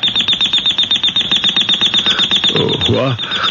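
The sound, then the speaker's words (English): An alarm clock rings loudly and insistently in the morning, a rapid, steady train of shrill metallic pulses that never lets up, with a sleepy groan from a voice near the end. “Oh, turn it off, Ted. What? The alarm”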